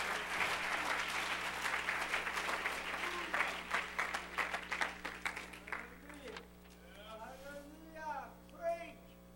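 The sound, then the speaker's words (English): An audience claps their hands in praise to God in the evening, a dense burst of applause that gradually thins to scattered claps, then fades as a man's voice begins speaking. “Come on, clap your hands to him and give him some praise tonight.”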